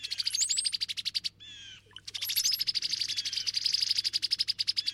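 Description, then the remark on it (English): Cowbird calls: a fast run of high, chattering notes that breaks off briefly, followed by a short burst of a different, buzzier sound before the rapid chatter resumes and continues to the end. No one speaks. “It seems the cowbirds just want a smoothly running operation.”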